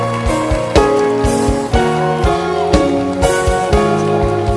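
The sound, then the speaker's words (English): A church audience claps their hands for the pastor in a dense, steady wash of applause, with strong beats recurring roughly every half second over loud sustained keyboard chords and a deep bass line. “Clap your hands for this pastor.”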